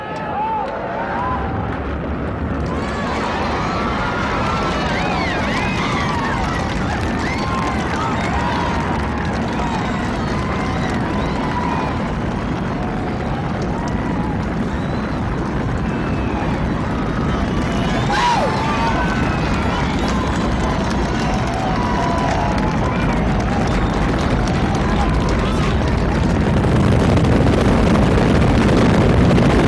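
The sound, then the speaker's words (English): A massive, continuous space shuttle launch engine roar fills the scene, a dense rumbling wall of noise that stays loud and steady throughout, with crowd voices and cheers mixed beneath it. “T-minus 10, 9, 8, 7, 6, 5, 4, we've run from the engine.”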